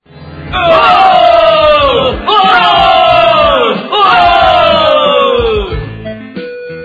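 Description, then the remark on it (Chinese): Excited tourists at a swimming resort cheer and shout together as they surround a doctor, lift him and toss him into the air: three long, loud bursts, each swelling up and then sliding down in pitch, with short pauses between them and fading at the end. “激动的游客围住博士，把他抬起来往上抛。”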